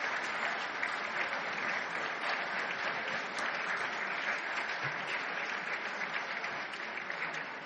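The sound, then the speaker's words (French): Sustained applause from a large audience at an ICANN meeting for ICANN staff members standing up, a dense, steady patter of many hands clapping for several seconds at an even level, with no speech over it. “Je vais demander aux membres du personnel de l'ICANN de se lever pour que nous puissions les applaudir chaleureusement.”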